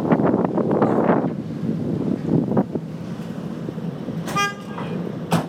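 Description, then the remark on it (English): A single short car horn honk sounds near the end, cutting through steady wind buffeting and a low traffic rumble that fill the whole recording, made while crossing a bridge over the River Tees. No one speaks. “That's part of the act, they're all beeping there.”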